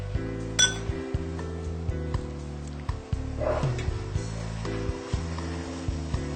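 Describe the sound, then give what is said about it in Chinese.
A spoon clinks sharply against a bowl once near the start, followed by a few lighter taps, over a steady low hum with no one talking, as a starch thickening sauce is finished and a small spoonful of sesame oil is added. “好，现在芡汁已经调好，放一小调羹麻油待用。”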